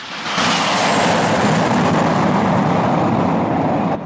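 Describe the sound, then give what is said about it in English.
An airplane takes off with a loud, steady roar of engine noise that swells in quickly and holds strong for several seconds, with no voices. “The plane takes off.”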